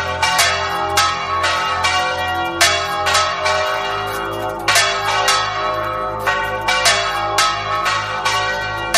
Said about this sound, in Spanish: Y el segundo, el repique de campanas.